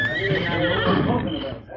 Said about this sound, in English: Stay here, horse.